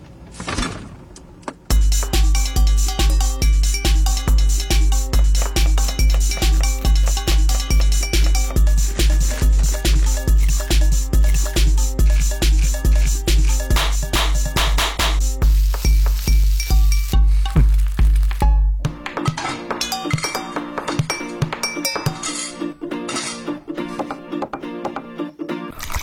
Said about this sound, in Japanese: 皆さんを空腹にさせる音楽ジングルです。で、聞いてみましょう。